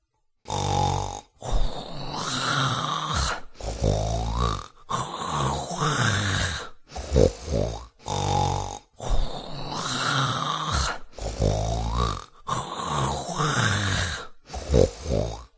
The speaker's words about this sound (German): Sie schob die Beine nach, und es dauerte keine 2 Minuten, da blies er schon wie ein Blasbalg, und bald schnarchte er, daß man's weit im Walde hörte.